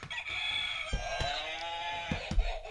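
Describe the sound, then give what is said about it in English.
An official answer buzzer in a trivia quiz goes off with a loud, rooster-like crowing sound, harsh and rich in overtones, its pitch wavering and sliding for nearly three seconds, with a few sharp clicks. “Now we actually have official answer buzzers.”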